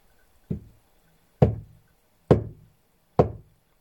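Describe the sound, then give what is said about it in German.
Four hesitant knocks on a wooden door, evenly spaced about a second apart, each a short dull thud with a quick decay, fairly soft, with quiet in between. “Er wollte gerade zu Bett gehen, als er plötzlich ein zaghaftes Klopfen hörte.”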